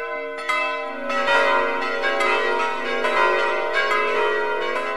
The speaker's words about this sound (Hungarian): És ma is Erdőszentgyőrgyön szól? El van szerelve Erdőszentgyőre a nagy harang, és a kicsi helyet egy új van öntetve.